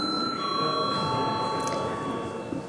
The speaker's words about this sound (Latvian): Balsojam. Lūdzu zvanu.